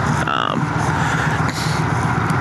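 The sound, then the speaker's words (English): A motorcycle with a stock exhaust accelerates, its engine droning loudly and steadily, a deep low-pitched rumble filling the whole stretch along with a broad rushing noise, and a brief higher whine early on. “My bike has a lot of stock exhaust. I'm sure you guys might be able to hear it, but especially when I'm letting into it, trying to get it accelerated.”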